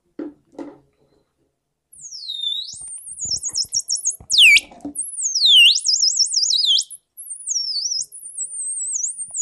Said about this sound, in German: Du hast uns jetzt was mitgebracht, was ihr gestern am Dienstag gebaut habt. Was ist das denn genau? Ein kleines technisches Teil. Da kann man so kleine Vogellaute mal spielen, also vorspielen.